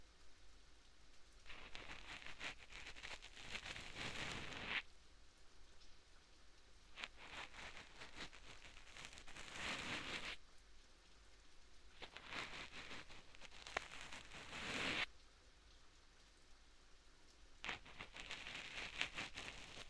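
Steady rain pours down in a continuous, dense hiss, swelling brighter in waves every few seconds with scattered drop patter. No voices are heard.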